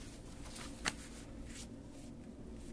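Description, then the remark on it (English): Soft rustling of paper sheets being shuffled and handled as someone searches for the right sheet, with a sharper crinkle near the start and a few quieter brushing passes after, over a low steady background hum. “And as soon as I get the right piece of paper in front of me, I'll read you those verses.”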